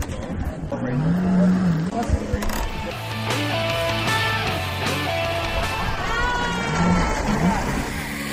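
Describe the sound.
A jet ski engine roars loudly, its pitch rising and falling as it revs across the water while a family, including a 4-year-old child, rides it, with people's voices mixed in over the steady motor noise.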